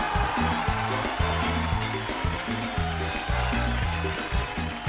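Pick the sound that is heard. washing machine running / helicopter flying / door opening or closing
washing machine running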